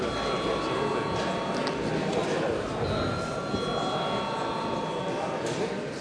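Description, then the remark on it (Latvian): An electric bell in a parliament rings continuously for several seconds to call members for registration at the end of the day's agenda, a steady, loud metallic clatter with sustained ringing tones over a faint murmur. “Līdz ar to viss šīs dienas darbkārtības jautājumi ir izskatīti, un es lūdzu zvanu reģistrācijai.”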